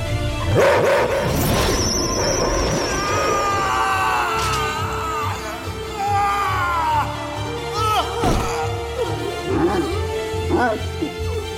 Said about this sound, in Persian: کریپتو، پارس کن.